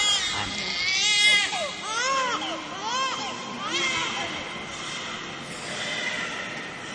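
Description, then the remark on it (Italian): An infant wails during a baptism in repeated rising-and-falling cries, loud, with a busy, reverberant background of many people. “Il tuo sguardo profondo ricorda il mistero del mondo, il tuo sorriso è un invito alla vita, il tuo pianto un richiamo d'amore.”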